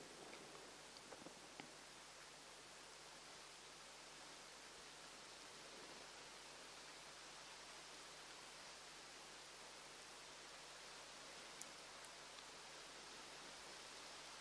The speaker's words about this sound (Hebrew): הצליל של טיפות הגשם על הגג